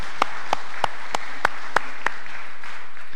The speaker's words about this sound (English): I know many of them would not want to actually be up here on stage and receiving that, so we'll just applaud that for them now.